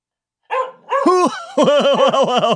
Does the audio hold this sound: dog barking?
yes